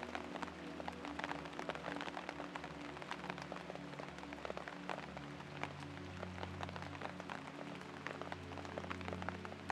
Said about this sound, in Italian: Senti la freschezza dell'aria mentre la pioggia bagna la terra, il tuo viso, il tuo corpo.